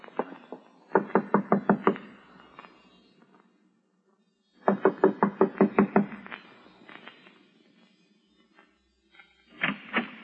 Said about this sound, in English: I'm going to knock on the door now and keep smiling to show we're friendly and let me do all the talking.